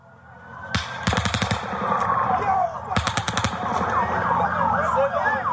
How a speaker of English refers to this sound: Guys, get down! Go that way! Get out of here! There's gunshots coming from over there! Go that way! Go that way!